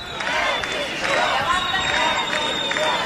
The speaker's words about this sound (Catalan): D'aquest faristol, ha rebut part d'aplaudiments, algú sí que l'està xiulat, i de fet ara el que sentim, com podeu escoltar darrere meu, crits de govern dimissió.